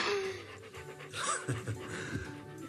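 A dog named Duke pants rapidly and steadily, quick rhythmic breaths filling the whole moment with a faint whiny tone underneath and no talking.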